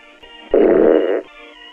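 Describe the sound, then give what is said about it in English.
A single loud, buzzy fart sound lasting under a second, rising abruptly out of a quiet background and cutting off just as suddenly. “I don't fart.”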